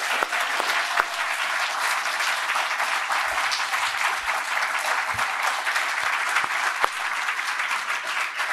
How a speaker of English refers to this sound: Let's give Dr. Edwards one more big round of applause.